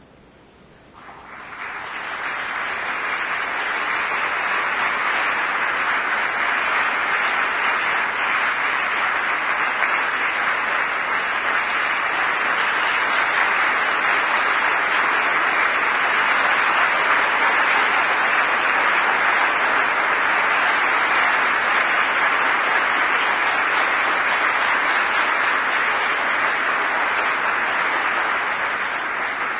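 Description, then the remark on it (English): A crowd breaks into sustained applause that swells within the first couple of seconds and then holds steady and loud, a dense wash of clapping hands with no voices, lasting about half a minute. “I didn't mean to entertain you to be applauded or for applause.”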